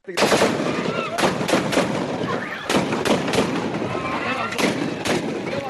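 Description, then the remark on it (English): Loud, sustained gunfire from armed separatist rebels shooting two men sitting on a road in Cameroon's English-speaking Northwest region: rapid bursts of sharp shots crackle almost without pause for several seconds over a dense roar, with one rebel shouting for more bullets faintly mixed in. “The armed men suddenly open fire, with one rebel shouting that more bullets should be sprayed to make sure the two people do not survive.”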